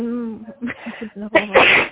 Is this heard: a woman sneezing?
yes